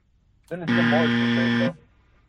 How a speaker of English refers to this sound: I'm sorry I had to buzz you. We are out of time.